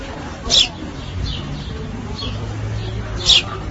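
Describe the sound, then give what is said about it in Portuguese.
Sparrows on a terrace table in Vigo, one feeding smaller young, chirp in two short, high bursts a few seconds apart, with fainter chirps between them over a low murmur of background noise. “Un vídeo desde Vigo, el perfil antes conocido, unos gorriones, pues tomando un pisco la bis”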